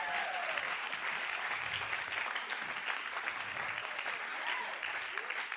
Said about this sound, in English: So would you all give my mom a massive round of applause?